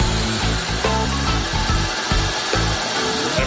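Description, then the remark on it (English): A drill press drilling the two finger holes and the thumb hole in a bowling ball runs steadily with a loud, continuous motor whir and grinding hum, faint knocks and shifts in the low rumble, and no talking. “what we have here is our drilling press. This is what's going to drill the two finger holes and the thumb hole in the ball.”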